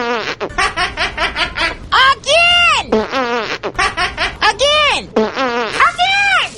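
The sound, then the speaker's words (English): A voice imitates a vaginal fart, air forced out after being packed in during vigorous sex, with a run of loud, sputtering bursts whose pitch swoops up and down, several quick puffs followed by longer wavering blasts. “The vagina's a dead-end street. Let's see. The air's got to go somewhere. It's packing air in there.”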